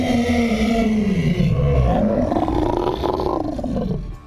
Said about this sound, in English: Heavy claws sank into the floor as it craned its neck toward me. Two red orbs in the sea of white met my gaze before the thing erupted in another guttural roar.